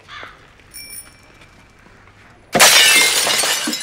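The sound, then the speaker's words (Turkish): A window pane, broken by someone, suddenly shatters with a loud, bright crash of breaking glass, the crunch and tinkle lasting over a second, preceded by a faint ringing bell-like tone in an otherwise quiet scene. “Lan camı kırdı.”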